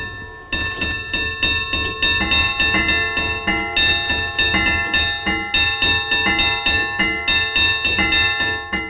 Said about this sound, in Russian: Интересно, что колокола, которые размещены наверху часовой башни, когда-то использовались во время богослужений.